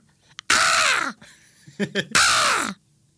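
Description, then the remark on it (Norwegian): A person imitates a crow with two loud, harsh caws about a second apart, raspy, with a few short voiced sounds in between. “Kråke? Shit, det er kråke.”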